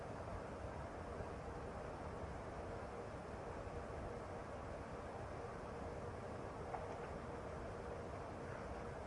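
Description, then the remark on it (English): A steady, continuous rumble like a train running, with broad noise holding at an even, moderate level throughout and no voices. “You want to look at the train again?”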